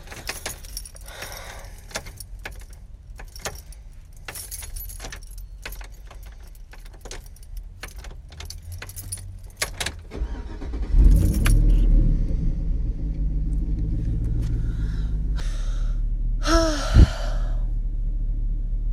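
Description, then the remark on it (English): Keys jingle and clatter for several seconds, then a car engine cranks and starts, settling into a steady low idle rumble with a brief rising whine near the end. “Can you please just turn on the car so we can go home?”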